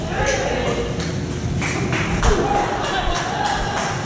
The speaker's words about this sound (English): Did you hear all that clapping going out the door? There's a lot more excitement going out the back door than out here.